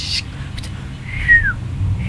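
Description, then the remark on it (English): A woman imitates a bird call with a single short, whistled chirp that slides downward in pitch, heard over a low, steady background rumble. “Oh, she's a bird.”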